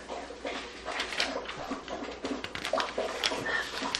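A dog laps drinking water, a steady run of quick, wet slurping splashes that keeps going without pause. No one speaks.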